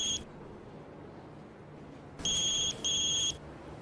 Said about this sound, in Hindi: कहाँ है वो लड़की? उसका मोबाइल बज रहा है।